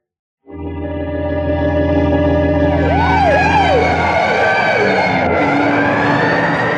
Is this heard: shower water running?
no